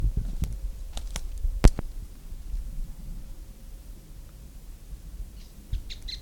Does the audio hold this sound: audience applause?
no